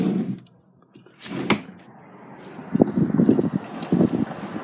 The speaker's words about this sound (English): It's windy, and it's been raining all day. And I'm like, fuck that shit. So I'm in here. I guess I could leave the window open just for some atmosphere.